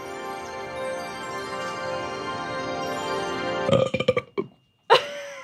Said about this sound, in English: Sorry, I always do a burp at the end of that poem.